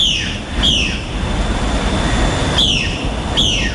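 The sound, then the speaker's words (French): Harsh, loud squawks from flocks of parrots taking off into the scorching air over the jungle around the village of El Capricho ring out in a few separate bursts, two close together at the start and two more near the end, over a steady rushing background hiss. “Des volées de perroquets s'échappent dans l'air brûlant.”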